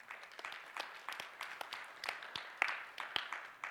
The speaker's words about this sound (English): Weak applause, but I'll take it.